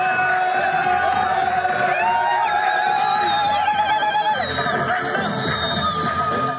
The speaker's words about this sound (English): Cheers are replacing the sound of bombs in Gaza's Khan Yunis.